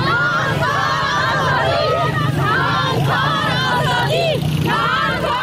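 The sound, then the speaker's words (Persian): Dozens of women protesting in Kabul, Afghanistan, near the Ministry of Education, against the Taliban's bans on their education and work, chant a slogan together in loud, rhythmic unison, their raised voices overlapping in steady repeated phrases over a constant background din. “شعاری که از یک سال بدین سو زنان معترض در کابل آن را سر می دهند.”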